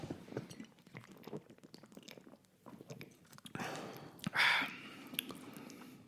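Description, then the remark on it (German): Drinks of beer clink together in a toast: one bright, ringing glass tap stands out after a stretch of small rustling and handling noises, with no one speaking. “Sollen wir mal anstoßen? Lass uns mal trinken.”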